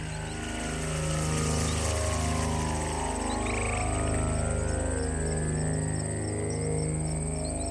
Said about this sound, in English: Birds and frogs. Birds in Massachusetts. Sounds from Massachusetts. I heard a river flowing, or like a pond or something flowing.